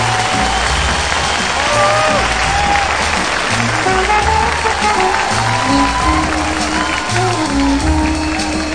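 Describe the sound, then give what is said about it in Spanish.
A crowd applauds steadily with scattered cheers and whoops, a dense, loud wash of clapping that holds for several seconds, with a few voices shouting over it, welcoming the project's founders, the director general and the producer, onto the stage. “Recibamos con un fuerte aplauso al director general”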